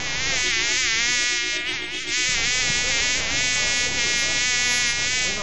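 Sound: housefly buzzing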